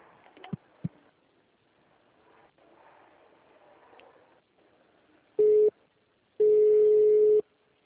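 A telephone busy tone after a call to the Rodrigo dos Santos Freitas penitentiary, Balbinos 1, dropped while being transferred: two loud, steady mid-pitched beeps, one short and one longer, following soft line noise and a couple of faint clicks.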